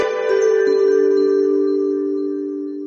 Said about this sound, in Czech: Evo zvona Besrca, moram da se javim.